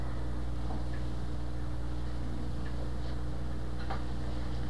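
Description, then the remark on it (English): Faint, sparse mechanical ticks sound over a steady low machine hum, spaced unevenly across a few seconds, with no voices present. “Now machines and the ticking of machines go back to an old superstitious belief.”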